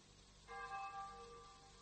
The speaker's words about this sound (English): Take away the tolling of the bell, and the funeral was like a silent film.